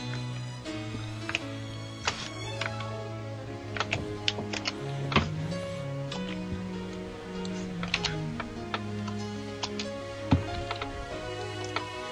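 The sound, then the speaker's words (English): Irregular clicks of typing on a computer keyboard, keys tapped in quick bursts and pauses, set against a steady tonal background like soft music, with no one speaking. “You're a bunch of typing.”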